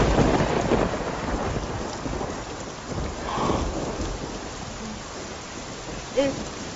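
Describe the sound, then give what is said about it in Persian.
Steady rain pours down in a dense, hissing wash, with a low roll of thunder swelling midway through and a brief sharper patter near the end. “نه من میخوام یه خورده بارون بخورم.”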